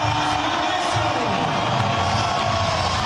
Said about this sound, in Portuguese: 22, Bright White. Também bem aplaudido.